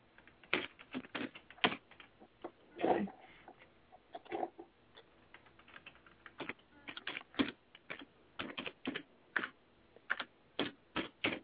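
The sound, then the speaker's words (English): Rapid keystrokes clatter on a computer keyboard while creating a Google mail account, irregular bursts of sharp clicks with brief pauses, fairly loud, no voices present. “Are you typing Windows sucks?”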